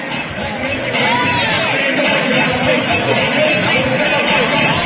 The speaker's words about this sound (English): Nice crowd on hand for a regular season contest here in the historic field house in Maysville.